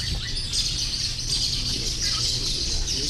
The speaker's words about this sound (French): Il y a beaucoup d'oiseaux ici. On les voit voler, plein d'espèces. C'est un refuge pour les oiseaux, le lac Nokwe ? Oui, alors ça a été... effectivement, il y a plus d'une centaine d'espèces d'oiseaux qui ont été répertoriées sur le lac.